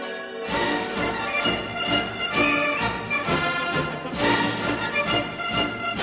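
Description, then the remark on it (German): Several church bells in Switzerland peal together in a dense, continuous ringing, marking the end of the war in Europe on 8 May 1945, overlapping strikes with long shimmering tones, loud, with no voices. “In der Schweiz schlägt Land auf, Land ab, Glocken.”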